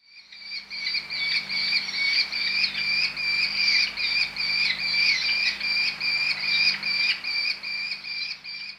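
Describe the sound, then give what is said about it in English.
A merlin, a small falcon, gives a rapid, shrill chattering call, its high notes pulsing steadily and without pause for several seconds, loud, with no voices. “The merlin is a small falcon, not much bigger than a blackbird.”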